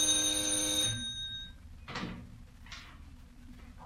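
A doorbell rings with a bright, buzzing tone for about a second, then stops; two short rustling bursts follow, like a door being handled. No one speaks.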